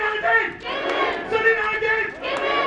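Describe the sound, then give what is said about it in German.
A crowd of several hundred workers at a late-morning central union rally at the main plant of auto supplier Mahle, in the Stuttgart region, shouts and chants together in loud, sustained swells, with overlapping voices rising in waves about every second or so, no single speaker standing out. “Mehrere hundert Beschäftigte haben sich hier am späten Vormittag versammelt.”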